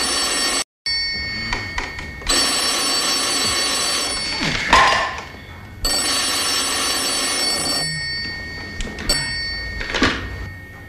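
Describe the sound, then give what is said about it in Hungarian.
A telephone rings for a requested wake-up call in repeated long electronic bursts with short pauses between them, loud, with faint shuffling and a couple of knocks in the background. “Ön kért telefonébresztőt?”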